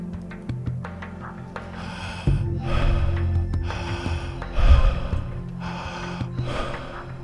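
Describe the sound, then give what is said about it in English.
Steady, continuous connected circular breathing, inhales and exhales flowing into each other without pause, several rapid breath cycles in a rhythmic loop over a low droning background tone. “Beginning now to connect your breath. No pause between the in and the exhale. Breathing in a circle.”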